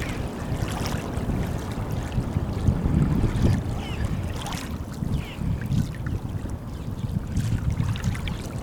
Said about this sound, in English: Let's listen to this here. There's a little walk. Maybe you can hear these waters.